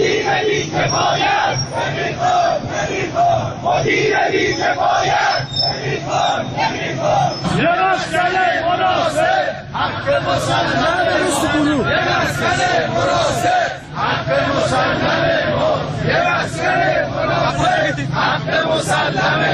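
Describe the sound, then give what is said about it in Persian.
A large crowd of protesters in Tehran chants slogans in unison, demanding the dismissal of the managing director of the Tehran bus company and the completion of a housing project. Voices rise and fall in rhythmic waves with loud, dense shouting that continues steadily throughout, with only a brief dip near the end. “به صدای شعار تجمع کنندگان که از سوی یکی از شنوندگان در اختیار ما قرار داده شده است گوش می‌کنیم.”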